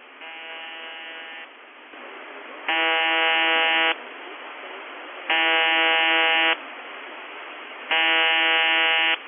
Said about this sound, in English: We've also been noticing periods of very, very weak buzzer, but where the buzzer itself is actually on a weak mode and you have a sudden switch where the buzz goes from quiet to strong.